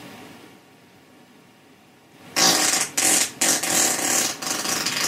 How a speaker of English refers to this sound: And notice there's no break in the fart right there. It sounds like it was about to end, but it continued. Right now we're at 20 seconds. It's a long fart.